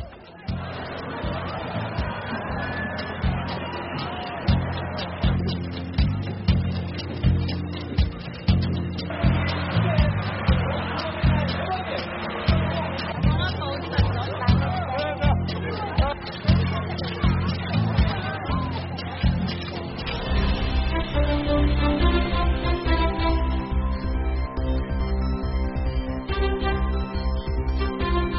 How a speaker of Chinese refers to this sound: 在韩国的真岛与毛岛间有一条天然形成的海路，每年海水退潮，海路就会出现。 节目最后呢，我们就带您去看看今年的海陆退潮，人们趁着退潮去捡蛤蜊的场面。